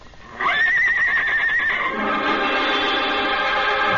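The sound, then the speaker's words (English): A horse, Trigger, lets out a loud whinny calling to Bullet, a rising call with a long quavering tremolo that breaks into a rough, fluttering neigh before trailing off. No one speaks. “Trigger calls to his pal.”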